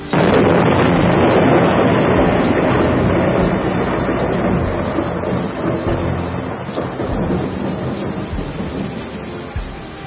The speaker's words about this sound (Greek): Και όσο μιλούσαν απ' έξω, άρχισε να βρέχει και να ρίχνει βροντές και αστραπές.